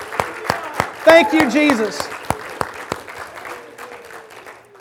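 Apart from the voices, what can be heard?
audience applause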